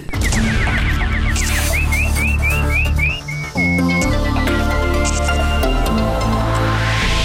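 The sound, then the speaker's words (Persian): Bright, bird-like whistled chirps, like a nightingale's song, repeat in a quick rising series over loud, busy music as a news segment opens, then give way to a held whistle tone before the music carries on. “اینک مشروع خبرها با آوای ملکوتی همکارم بلبل.”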